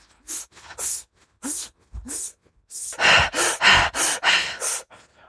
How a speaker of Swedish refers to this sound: Exakt, ja, men man kan köra genom munnen faktiskt om man vill aktivera sig ännu mer. Men man kan prova, liksom, prova sig fram med att andas intensivt genom näsan eller munnen.